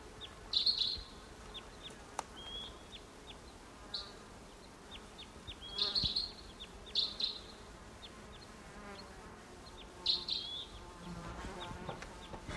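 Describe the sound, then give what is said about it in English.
A distant bird gives short, high-pitched toop calls, about five of them spaced irregularly, faint over a steady buzzing, insect-like background hum. No one speaks. “Maybe the same bird as before, about 150 or 200 yards off on top of a tree.”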